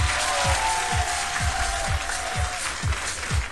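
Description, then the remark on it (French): Audience applause at the FEMUA festival, a dense wash of clapping that stays steady and fairly loud throughout, with regular low thumps pulsing underneath about every half second. “Applaudissements s'il vous plaît.”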